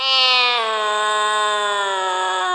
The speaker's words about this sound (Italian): Si guardò attorno, premette un interruttore e si udì un miagolio orrendo.